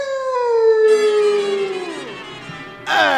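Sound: dog howling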